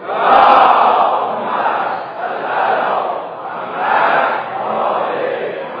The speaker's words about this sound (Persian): به افتخار این مردم عزیز صلوات.